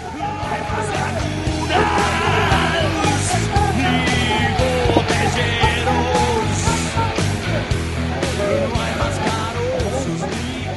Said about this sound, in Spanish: Los estudiantes dan gritos a la policía para que se detenga, avisándole de que hay otro policía aquí.